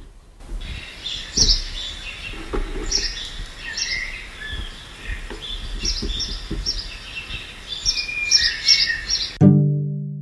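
Birds chirp and sing outdoors in a steady, overlapping chorus of high twittering calls, with soft low rustling underneath and a brief deeper sound at the very end.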